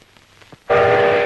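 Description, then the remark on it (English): After a moment of near quiet with faint clicks, a train whistle at a train station suddenly blasts in, loud, holding one steady, shrill, harmonic tone to the end. “Now at the train station, Uncle Jack faces George.”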